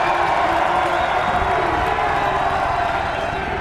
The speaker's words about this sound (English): Whoa, you can hear the crowd now.